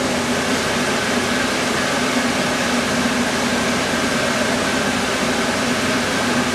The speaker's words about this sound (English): Exhaust fan.